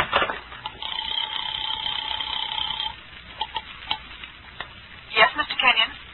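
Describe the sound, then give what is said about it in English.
A house phone rings with one steady electronic trill lasting about two seconds, followed by soft clicks and a brief burst of handling noise. “A house phone.”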